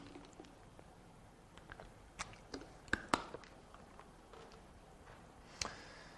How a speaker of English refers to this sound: Excuse me, I'll get a sip of water.